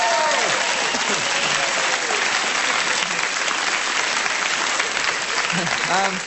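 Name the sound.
studio audience applause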